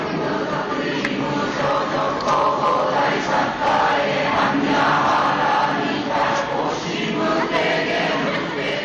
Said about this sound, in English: And there at Nara, they have a massive wooden temple housing an equally massive bronze cast of Buddha. It's 20 plus feet high. And while I was there, a group of about 30 men and women stood in front of the Buddha, and they began to chant.